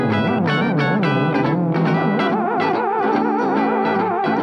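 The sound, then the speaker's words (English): A theremin plays loud, continuous gliding tones with a wide, wobbling vibrato, heavily processed with echo and distortion, swooping between pitches without any voices. “Paul Giamatti has a theremin.”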